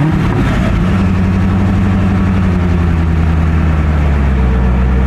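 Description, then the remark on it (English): The loud, deep engine of a new Corvette C8 convertible sports car rumbles steadily, with strong low harmonics and a slight rise in pitch early on, then settles into a throaty idle. No one speaks. “I bought a new Corvette.”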